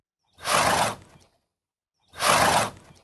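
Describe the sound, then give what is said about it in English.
A horse blows twice, each a sharp, breathy whoosh of air lasting under a second, with a short pause between the two loud, hissing exhales. “Blowing is a strong, rapid expulsion of air resulting in a high-pitched whooshing sound, usually used as an alarm to warn others.”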